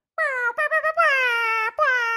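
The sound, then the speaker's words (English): A voice mimics an air horn with a loud, nasal, sustained tone, then a few quick stuttering honks and two longer steady blasts, with a brief break before the last. “That's a bullhorn? An air horn.”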